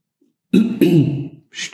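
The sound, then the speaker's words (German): A person clears their throat in two quick, rough bursts followed by a short breathy exhale, with no talking. “Ich wollte die ganze Zeit schon räuspern. Jetzt konnte ich endlich die Gelegenheit nutzen.”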